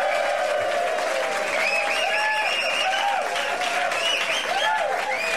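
A crowd at the Out in the Bay radio 10th anniversary party at the Oasis Cabaret and Nightclub in San Francisco claps steadily and loudly for several seconds, with rising and falling whoops and whistles cutting through the dense wash of applause.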